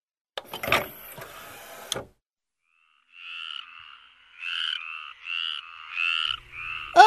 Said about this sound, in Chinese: 是青蛙叫哎！ 对，这张是树蛙专辑。